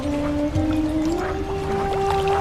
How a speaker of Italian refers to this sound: Quella che sentite è la voce delle bolle di Magadino, il suono di un territorio relativamente piccolo, poco più di 2 km², che ospita la più grande varietà di flora e fauna del Ticino.